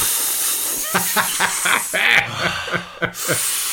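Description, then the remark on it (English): A voice imitates the hissing of a vacuum air leak in the central locking of a Mercedes 123's passenger door when driving fast: steady breathy hissing broken by a string of short voiced bursts and snickers, with a sharp cutoff near the end. “It's in my Mercedes 123, there was an air leak in the central locking in the passenger door.”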